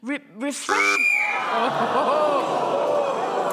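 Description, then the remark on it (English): A voice speaks briefly, then a loud, sharp whistle blast with a buzzing edge, blown very close to a listener, cuts in, followed by a sustained wash of chatter and laughter. “you were speaking as the whistle went”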